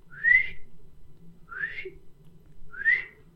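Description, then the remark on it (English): A groundhog (woodchuck) sitting up by its burrow gives three sharp, high whistles, evenly spaced about a second and a quarter apart, each a quick rising chirp over a faint low background rumble. “And he was sitting up and whistling. And I said, oh my God, they really do whistle.”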